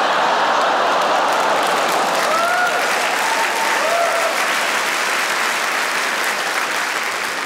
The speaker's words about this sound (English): You laughed and you clapped and you oohed all at the same time. That's very impressive. Well done.